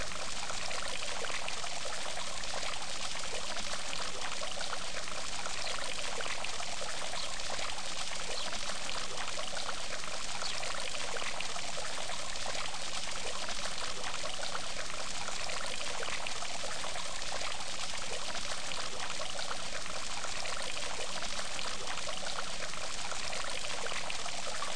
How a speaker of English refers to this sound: and make your way back across the lawn to the fountain. And look once more into the cool water.